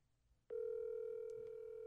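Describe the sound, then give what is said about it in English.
After a brief quiet moment, a steady electronic telephone ringing tone starts abruptly and holds at an even pitch, clear, as the call goes unanswered. “Am I important enough that my phone will get picked up?”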